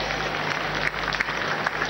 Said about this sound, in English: Let's clap for Jesus Christ. Thank you very much.